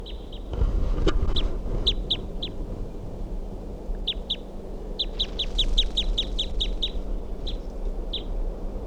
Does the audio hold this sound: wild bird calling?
yes